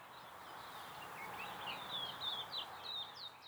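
Birds chirp in a steady run of short, high, sweeping calls, repeating every fraction of a second over a soft hiss of background noise, growing a little livelier toward the end.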